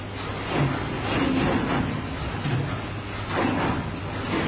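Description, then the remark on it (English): Steady electromechanical hum and whir from the computers and machinery of an electromechanical telephone exchange, a continuous drone with low tonal bands and a few faint clunks rising briefly above it; no one speaks. “You're going to have to speak up over the electromechanical noise here.”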